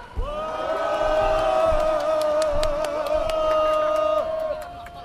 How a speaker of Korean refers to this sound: 그럼 지금부터 아프가니스탄 점령 중단, 한국군 재파병 반대, 한미 전쟁 동맹 반대, 반전 평화 행동의 날을 여러분들의 큰 함성으로 시작하겠습니다.